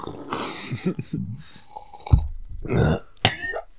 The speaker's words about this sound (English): Wait, everybody take a sip just to prove that we got coffee for the audio version.